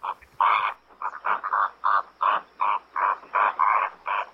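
Greater flamingos call in a steady run of about eleven loud, harsh, goose-like honks, evenly spaced and mid-pitched, with no voices.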